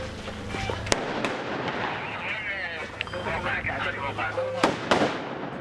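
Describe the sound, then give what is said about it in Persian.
Gunfire exchanged inside a house in western Mosul, between Iraqi forces and Islamic State militants hiding there: a handful of sharp, loud shots crack out at irregular intervals over a rough, noisy background with murmuring voices. “تبادل آتش در داخل خانه.”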